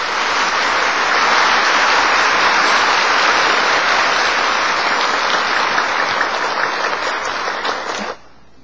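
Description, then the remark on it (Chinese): Sustained, dense applause from a crowd welcoming Supreme Master Ching Hai to give a teaching, steady and loud for about eight seconds before cutting off abruptly, with no voices heard over the clapping. “现在我们以热烈的掌声恭请上清下海无上师来为我们开示。”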